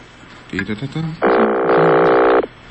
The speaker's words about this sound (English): Let's make a call down south. Cool, right? And there's the phone ring.